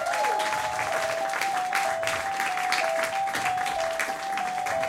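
An audience applauds steadily at a Christmas gift presentation, a dense wash of clapping at even loudness for about five seconds. A thin, sustained whistle-like tone runs underneath throughout.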